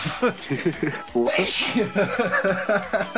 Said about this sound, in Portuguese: Eu espirrei aqui.